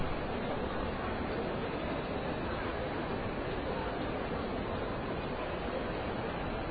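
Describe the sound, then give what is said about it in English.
Ambient crowd noise in Moynihan Train Hall, where about 1,000 people mill about waiting for trains: a dense, steady murmur of many indistinct voices blending into an unbroken, hiss-like wash that holds an even level throughout, with no single voice standing out. “But I just want to play some of the ambient noise of the crowd downstairs.”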